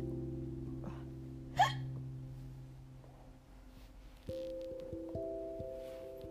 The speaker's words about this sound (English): Burp.